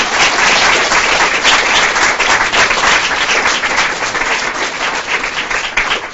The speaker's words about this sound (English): Let's have, if we could, one more round of applause for all four of our speakers.